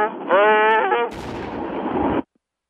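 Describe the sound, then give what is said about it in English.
A rising, whining tone gives way to a loud, rumbling explosion that roars for about a second before cutting off abruptly, with no one speaking. “Okay, I think I heard an explosion, but not quite.”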